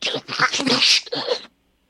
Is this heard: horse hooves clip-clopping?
no